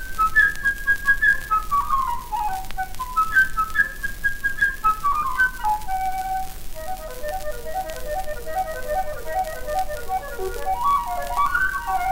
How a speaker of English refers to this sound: My dear children, young and old, each character of this tale is represented by an instrument in the orchestra. The bird by a flute.